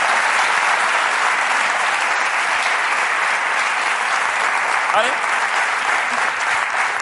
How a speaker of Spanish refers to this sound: Ahí está, un aplauso para nadie.